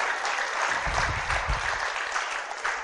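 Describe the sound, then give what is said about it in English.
A room full of people clapping steadily for a woman at a Sunday morning gathering, a dense, continuous patter of many hands with no voices standing out. “A round of applause for Jill.”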